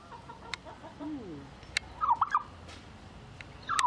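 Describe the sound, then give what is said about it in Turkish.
Geese and ducks calling, a string of honking and squawking cries in short bursts over a faint outdoor background, with no one speaking. “Seviyorsun, gazları da seviyorsun, ördekleri. Ne güzel bağırıyorlar.”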